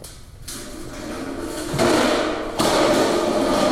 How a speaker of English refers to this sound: What was that? The door fell over. Hide. What was that? Looks like the door just fell off.